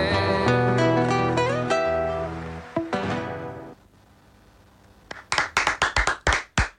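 Strummed guitar chords from two gaucho payadores ring out and fade at the Fiesta Nacional de la Guitarra 2024 in Dolores, then after a short pause comes a burst of applause: around eight sharp, loud hand claps in a fairly steady rhythm, with no talking.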